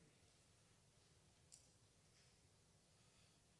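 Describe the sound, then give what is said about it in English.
A single soft click of the X key on a computer keyboard about midway, pressed as the keyboard is pushed on, brief and sharp, standing out slightly over a steady background hiss. No one speaks. “I have my keyboard laying in such a way that it hits the letter X when I push on it.”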